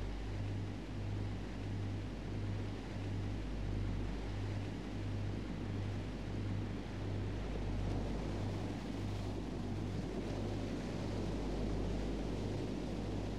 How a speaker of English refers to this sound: As you let go and flow, the calming sound of ocean waves gently moves your awareness.